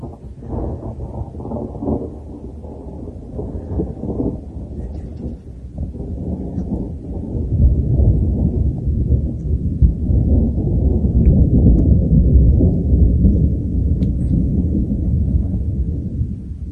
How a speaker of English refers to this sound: Ooh. Thunderstorm is here.